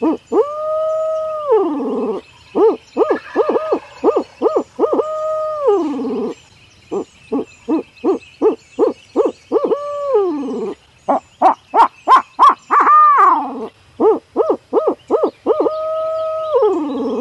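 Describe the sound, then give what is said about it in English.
Barred owl hoots blown on a Hooks Custom Calls Signature Series Owl Hooter in Flamed Osage wood: rhythmic series of short clipped notes mixed with longer drawn-out, wavering hoots that rise and fall, loud and alone with no talking. “That's just the basic calls of a barred owl.”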